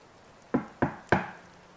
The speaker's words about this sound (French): Bleuet sursaute. Quelqu'un a frappé à la porte.